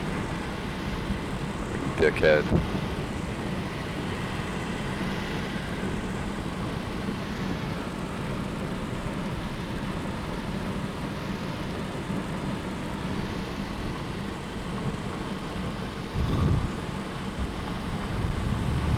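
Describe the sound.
A steady, loud rush of road noise and hissing water spray under a low engine rumble as a car drives in rain with lightning, a car just ahead showering the windshield with water; a man briefly mutters early on and a short surge of spray comes later.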